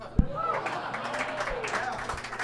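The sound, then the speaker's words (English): An audience claps in a steady, dense patter of many hands, with a sharp thump near the start and voices sounding faintly underneath, applauding the mention of a film's name. “The applause is only for saying the name of the film, definitely not for the film.”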